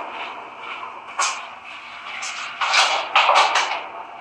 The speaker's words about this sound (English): hold on, let me close my door real quick.